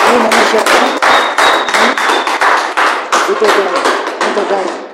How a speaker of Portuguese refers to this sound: Muito obrigado, uma salva de palmas para esta menina.